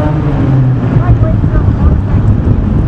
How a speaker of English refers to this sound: Yeah, it's cold and, well, the traffic, as you can hear, is quite loud.